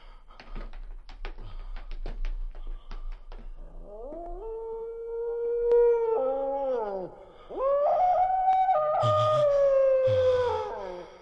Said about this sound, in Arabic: إنه كلب، إنه كلب.